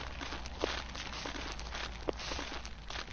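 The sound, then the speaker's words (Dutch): Soft, irregular footsteps from a few people walking outdoors around the nearly 55-metre-high Arminius monument in a forest, with faint crunches over a steady background hiss and no voices. “We lopen nog juist rond dit indrukwekkende, bijna 55 meter hoge monument.”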